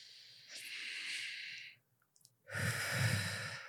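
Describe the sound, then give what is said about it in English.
Two long, slow, deliberate box breaths taken to center oneself: a steady airy inhale easing off into a pause, then a fuller, louder exhale that rushes out with a breathy sigh. “Okay, let me center myself with some box breathing.”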